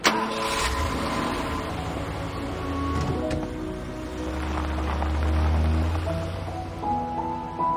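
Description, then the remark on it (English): A man's car engine turns over and settles into a steady rumble that grows slightly as he drives away, with some muffled mechanical clunks and no voices. “gets in his car.”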